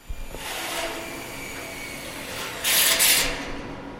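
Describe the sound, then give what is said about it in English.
A power drill grinds into metal beams 60 feet in the air on a construction job, with a steady, gritty whine, surging into a harsher, louder screech for about half a second before settling back; no voices are heard. “Here's what you learn when you drill metal beams 60 feet in the air.”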